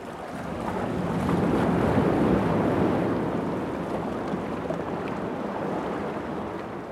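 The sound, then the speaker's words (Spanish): A motor launch bound for Chao passes over choppy sea off Chiloé, its engine and rushing water swelling to a loud peak before easing into a steady wash, with wind buffeting throughout and no voices. “Por eso, cuando por pura casualidad pasó una lancha a conseguir agua, les pedí que me llevaran.”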